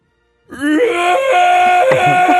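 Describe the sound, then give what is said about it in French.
A person roars in imitation of a T-Rex: one loud, sustained, strained vocal cry with a harsh, wavering pitch that starts abruptly after a brief silence and holds for about two seconds. “Bah, fais un cri de T-Rex.”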